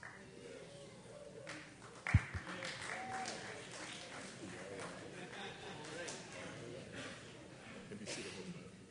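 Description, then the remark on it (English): A church audience applauding steadily during a graduation, a dense wash of clapping that holds for several seconds, with a sharp thump partway through and some voices murmuring underneath. “Thank you, church, for all your applause.”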